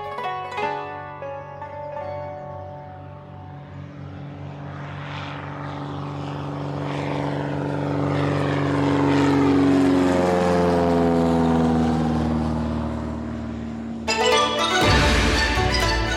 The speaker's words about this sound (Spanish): Mientras la avioneta avanzaba, Alsina leía un libro muy antiguo.